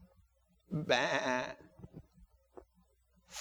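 sheep bleating

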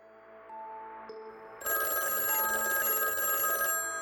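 telephone bell ringing

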